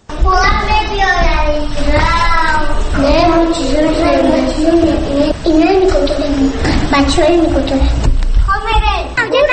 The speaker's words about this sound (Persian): من در کودکستان شماره 34 مرکز شهر دوشنبه قرار دارم. بچه ها مشغول بازی هستند.